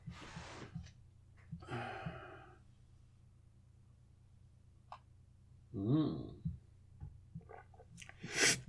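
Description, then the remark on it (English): Sips and swallows from a drink, a few soft slurps and breaths spaced out over quiet pauses, with a louder gulp near the middle and an exhale at the end. “Now I'm going to have a sip of a drink because I'm going to get a bit into it here.”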